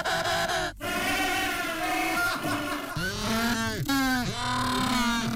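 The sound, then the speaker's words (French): A penguin colony calls nonstop, many loud braying honks overlapping in a dense chorus, with several birds swooping up and down in pitch over the din. “C'est confirmé. C'est une colonie de manchots.”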